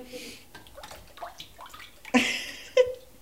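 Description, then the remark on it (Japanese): Water sloshes and splashes in a shallow vat as a washi papermaking screen is dipped and rocked back and forth and side to side during hand papermaking, on a day with light snow falling, with two sharper surges of splashing near the end and soft voices in the background. “はい、 お水また チャップ、 あ、はいはいはい、で横もやってみてください。”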